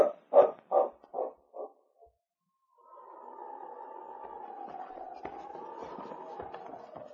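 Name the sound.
husky dog barking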